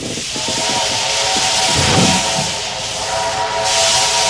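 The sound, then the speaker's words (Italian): A steam train chugs steadily with loud hissing steam, a rhythmic puffing beat and a sustained whistle-like tone running through, continuous with no voices. “Questo suono che lei sente è un treno a vapore.”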